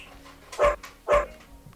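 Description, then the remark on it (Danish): A dog, one of a household's three dogs (a golden retriever and two Samoyeds), barks twice, two loud barks about half a second apart, with no one speaking. “I podcasten medvirker af og til også hjemmets tre hunde, en golden retriever og to samojeder, især når mad- og vandskålene trækker, men også når de bare kommer forbi for at blive krammet.”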